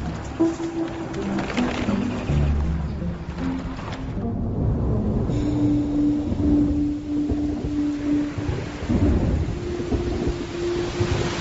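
Steady autumn rain hisses continuously across the whole stretch on the grassland, with low rumbling like thunder underneath and a few faint tonal bird-like calls drifting in and out.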